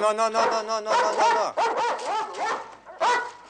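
A dog in a pen fenced with chain-link mesh barks repeatedly, a quick run of sharp, strained barks and yelps with short gaps between them, some whiny and high-pitched, as a man pushes a pot of soup-like liquid in on a shovel and the dog knocks it over.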